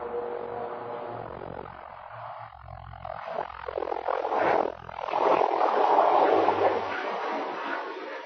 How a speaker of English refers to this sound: I'm not sure it's making it through the microphone, but we can hardly speak because there's a plane going by.